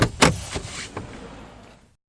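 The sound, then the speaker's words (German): The door of a DeLorean car opens with a sharp latch click and a heavy clunk, followed by a few softer creaks and bumps as someone climbs in, with no talking. “Abgefahren, ein DeLorean. Die gibt's ja schon ganz lange nicht mehr. Lass uns mal einsteigen.”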